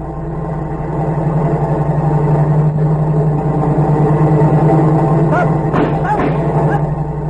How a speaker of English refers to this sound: Wait, there's a car coming. Without lights.